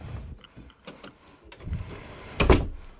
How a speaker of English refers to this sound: I'm going to shut my door. Let me finish.